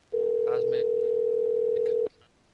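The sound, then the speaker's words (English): A loud, steady telephone dial tone hums for about two seconds as a call is being dialed, with a few faint brief sounds over it, then cuts off abruptly into near silence. “Yeah, I think it's time to make that call”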